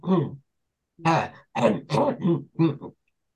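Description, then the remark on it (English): A person clears their throat, a short gruff rasp followed after a pause by a rapid run of four or five throaty, voiced harrumphs, fairly loud and with no talking. “Yeah, or clearing a throat. I mean, I've got a cough at the moment”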